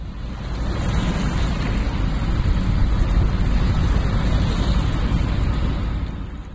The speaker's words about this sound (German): Das Wasser ist grau und fließt an diesem Tag verdammt schnell. Bei diesem Tempo von vielleicht 6-7 Kilometer die Stunde war das Wasser, das jetzt gerade am Bonner Bogen vorbeizieht, vorgestern noch in Frankreich.